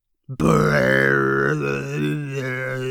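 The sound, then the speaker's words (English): A voice imitates a loud, drawn-out burp: one long, low, croaking belch that holds steady for nearly three seconds with a rough, buzzing tone and slight wavering pitch. “Again, the burps rolled around in the pumpkin and then shot through the tiny hole.”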